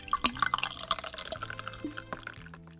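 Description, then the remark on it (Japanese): A non-alcoholic champagne-style sparkling drink is poured into a glass, with quick splashing and dripping sounds and a faint bubbly crackle, its tone shifting as the glass fills. No one speaks. “グラスに注いでっと。”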